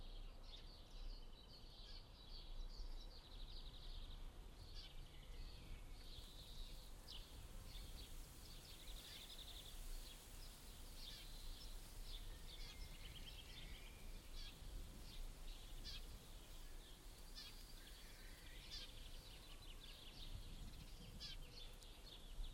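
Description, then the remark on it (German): Many small birds chirp and trill steadily in spring at a house where birds nest, a continuous outdoor chorus of high, overlapping calls over a soft background hiss, with no one speaking. “Bei mir am Haus nisten auch ein paar Vögel.”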